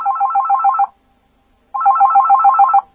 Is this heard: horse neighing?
no